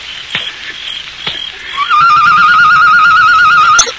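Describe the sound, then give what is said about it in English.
A person imitates a bird call with a steady, warbling trill that holds one pitch for about two seconds. A few soft taps come before it, and nobody speaks. “Did you make that noise? Yes. Sounded like a bird.”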